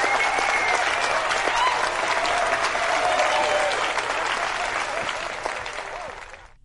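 A crowd applauds steadily on hearing of a marriage of 49 and a half years, dense clapping holding loud for several seconds before fading out toward the end, with a few faint voices mixed in.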